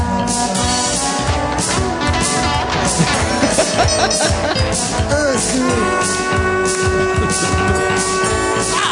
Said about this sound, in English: Sax.